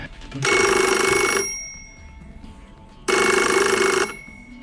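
An old mechanical telephone bell rings twice, each a loud, roughly one-second metallic clatter with a pause between, close by and with no talking.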